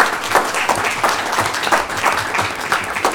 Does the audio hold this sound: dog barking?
no